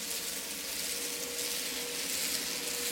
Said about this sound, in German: Eine Schnellfähre nähert sich.